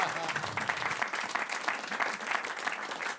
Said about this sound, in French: Oui, applaudissez pas trop quand même, je sais pas.